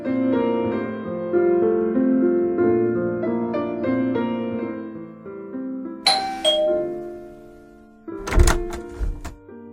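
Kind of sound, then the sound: household object, doorbell ringing repeatedly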